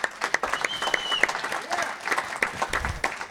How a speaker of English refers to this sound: And this young man, he has less experience than all of us. I think he deserves a special round of applause.